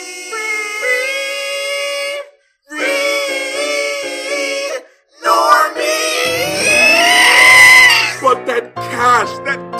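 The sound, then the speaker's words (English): Loud, shrill screeching in several strained, wavering bursts separated by brief silences, made while splashing around in a spring, with splashing water churning beneath the longer, wilder cries toward the end. “From the Nipponi spring came the ear-bleeding sound of the Weebery screeching while splashing around.”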